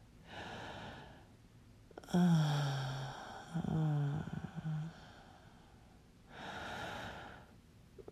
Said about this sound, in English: Time to take a few deep breaths. I said hands off. Breathing in. And out.